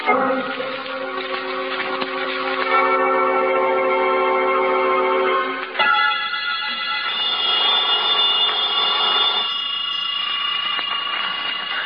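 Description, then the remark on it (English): A hotel room telephone rings loudly and continuously at about noon, a call from the clerk downstairs; its bright metallic bell tone has a brief hitch partway through, with no voices. “About noontime, when the phone rang, I knew it was the clerk downstairs calling because I'd left a call for 12.”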